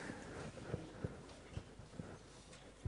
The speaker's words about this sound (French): Oh, le cheval, un bon cheval, très bon. Oui, c'est vrai, il est très bon.